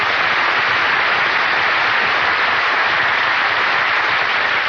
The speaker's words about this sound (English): Why did you give just him applause?